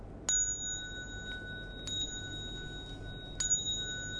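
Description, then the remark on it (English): Three bright bell strikes ring out alone, spaced about a second and a half apart, each leaving a clear sustained tone that carries into the next over a low background hum; the bells are rung during a ceremony as the cue to prostrate. “Then you will hear three bells.”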